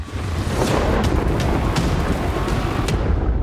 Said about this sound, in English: Nothing puts a damper on an outdoor event like a thunderstorm. But thankfully, that sound does not signal a change in the weather. It just means it's time for the lightning round.